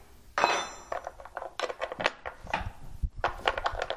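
Someone unscrews and loosens the side panel of a wooden organ box: a loud initial clunk, then a quick series of knocks, scrapes and clatters of wood and metal, with no talking.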